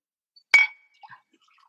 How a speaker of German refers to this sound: Cheers, ich stoß auch mit dem leeren Glas an. Cheers, Klang. Awesome. Aber ich hätte gerne dieses Geräusch, wir müssen das irgendwie simulieren.